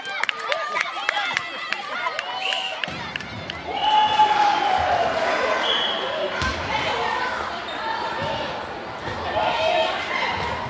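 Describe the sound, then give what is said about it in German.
Basketball and volleyball play in a gym on a hot, sunny day: a ball bounces repeatedly against the floor, sneakers squeak sharply, and a lively crowd of voices chatters and calls out throughout. “Die Sonne brutzelt auf die Köpfe aller Beteiligten herunter und trotz des Daches über dem Kopf in der Turnhalle beim Basketball und Volleyball ist die Hitze deutlich spürbar.”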